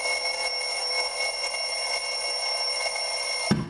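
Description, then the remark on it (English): A steady electric bell rings continuously with a bright, buzzing metallic tone, holding at even loudness for several seconds before cutting off abruptly, followed by a brief low thump. “And with that bell, it marks the end of this episode of Girly So Groovy.”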